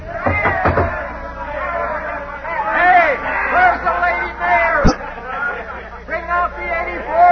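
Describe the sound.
A rowdy drunken crowd clamors outside a house, many voices overlapping in a steady, loud babble, with wailing, yowling shouts rising above it and a sharp thump partway through.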